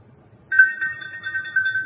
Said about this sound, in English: The ringing of the bell announces it's time for Bible Club.